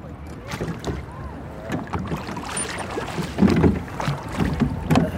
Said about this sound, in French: Là-bas, c'est très joli parce qu'il y a une petite famille à bord d'une barque. Et avec les enfants, on va ramer sous les cerisiers, tu vois.